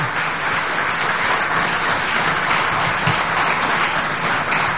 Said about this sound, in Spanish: Acá tiene que venir aplaudido. Muchas gracias a todos. Vamos a ejercer de nuevo este privilegio del aplauso